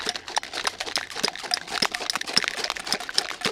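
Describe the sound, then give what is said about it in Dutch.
Handheld shakers are shaken in time to a rhythm, a steady, quick beat of bright, gritty bursts repeating several times a second, moderately loud with no one talking. “En op 0 gaan we gewoon beginnen met te schudden of te slaan op het ritme.”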